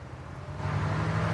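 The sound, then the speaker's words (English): A tow truck's engine rumbles steadily as it drives through town, a low droning hum with road noise that swells slightly louder partway through. No one speaks. “Now in town, the tow truck passes a sign for Mackenzie Renaissance Fair. Alden and Megan ride in the tow truck.”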